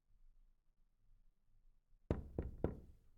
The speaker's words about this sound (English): Now he knocks. Come on in.